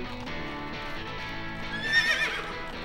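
A horse neighs loudly, a long shrill whinny that quavers and peaks near the end, with no one talking over it.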